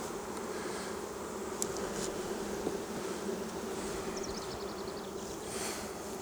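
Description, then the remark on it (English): A steady, dense hum of many honey bees buzzing around an open hive as its frames are inspected, with honey exposed: a continuous droning swarm with no voices, a few brief higher chirps flickering over the constant drone. “Handful of bees, also got honey exposed.”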